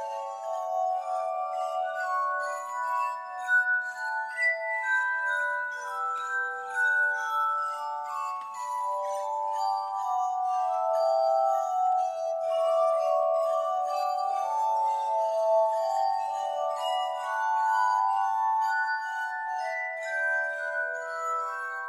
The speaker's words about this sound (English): He then attached these glass bowls to a wheel, which could be spun, and the glass harmonica was born.